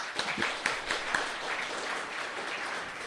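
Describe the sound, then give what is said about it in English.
An audience at a Wheeler Centre book event in Melbourne breaks into steady applause for the author of the book I Migrant, a dense wash of many hands clapping with a few sharper individual claps standing out early on, holding at an even, moderate level without talk. “This is the book, I Migrant, which I highly recommend, and I reckon we should give Sammy a round of applause.”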